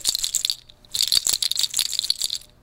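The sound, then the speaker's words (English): A bright, clattering rattle of many small hard objects shaken in two quick bursts with a short pause between, fairly loud: deer toes embellishing a bag knocking together. “But it's embellished, the bag itself is embellished with the toes of deer.”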